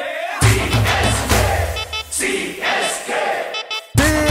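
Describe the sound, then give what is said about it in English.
A loud crowd of Chennai Super Kings (CSK) fans cheers and chants in rhythmic bursts, voices swelling together with short breaks between shouts, ending in a brief pause before another roar starts. “CSK, let me hear you.”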